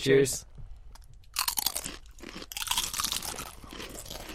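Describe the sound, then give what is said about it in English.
Loud, irregular crunching of regular Doritos nacho cheese tortilla chips topped with salsa being chewed, with crisp bursts coming in quick succession after a brief vocal sound at the start. “Okay, so now we have the Doritos, which really is just a regular Doritos nacho cheese.”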